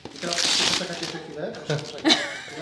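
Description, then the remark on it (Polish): Loud rustling and ripping of paper as the gift wrapping on a Radio Olsztyn 65th birthday contest prize is torn open by hand instead of with scissors, crinkling in bursts, with people talking over the later part. “Ale ja się nie godzę na to, żeby to było otwierane nożyczkami. To musi być rozerwany papier i jak...”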